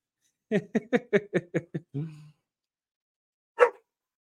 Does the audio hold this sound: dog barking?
yes